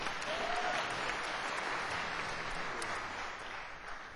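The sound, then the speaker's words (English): An audience applauds the late Canadian poet Al Purdy steadily for about four seconds, a dense, even wash of clapping hands that holds at a fairly constant level and eases off only slightly at the end. “They were making a documentary film about the late Canadian poet Al Purdy, and Al Purdy deserves your applause for sure.”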